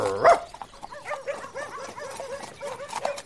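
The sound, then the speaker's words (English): A farmer's dog named Garm lets out one loud bark, then a quick run of high, whiny yips and whimpers that keeps going steadily to the end. “He's the most important person in Ham, and I'm his dog.”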